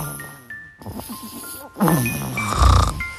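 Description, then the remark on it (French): A sleeping baby girl's soft snoring breaths, several raspy inhales and exhales that swell louder toward the end, with faint tinkling, chime-like tones drifting above them. “Presque aussi beau que le son de son sommeil.”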